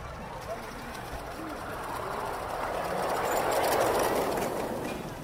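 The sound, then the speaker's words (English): A model train rumbles steadily along its track, the clattering noise swelling as it approaches, peaking, then beginning to ease off, with faint birdsong in the background. “What is it about models like this that attracts you rather than the big trains?”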